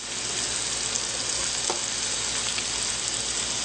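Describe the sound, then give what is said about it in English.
Vegetables, including ginger and spring onions, stir-frying on high heat in a hot pan give off a steady, dense crackling sizzle, with a faint scrape of stirring partway through and no voices. “Remember, you just want to stir fry these vegetables on high, because we're not really cooking them where they're soft.”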